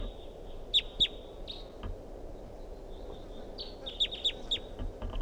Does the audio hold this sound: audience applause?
no